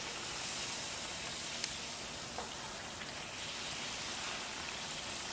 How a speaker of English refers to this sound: All right, I'm gonna finish frying up the rest of them.